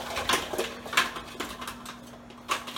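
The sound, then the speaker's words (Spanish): Frozen cubes of coconut or almond milk, made in an ice-cube tray, drop into a food processor bowl one after another, making several sharp, hard clicks and clatters at an uneven pace, moderately loud, with no talking. “¿Ven cómo quedan los dados? Y también los colocamos en el procesador.”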